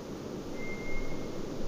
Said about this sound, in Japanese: まあ口笛にも聞こえるし、もうちょっとこうなんか裏話しいような声も聞こえますね、これがまあトラツグミという、まあヌエ という 声で、まあ春先の明け方によく鳴きます。